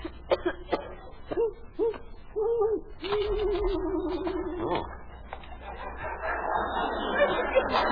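bird, owl hooting

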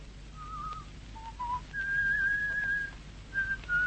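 human body sound, man whistling a tune

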